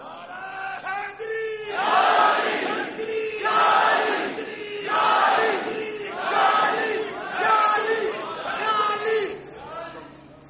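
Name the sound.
audience chanting religious slogans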